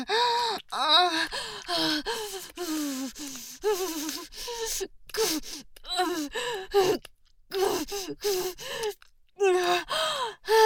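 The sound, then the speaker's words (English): Heavy, rapid panting and gasping, a steady run of short voiced breaths with brief pauses, some catching into moans and sighs, with no clear words. “Sorry about panting and leaking so much spit on your face, but this is just so much.”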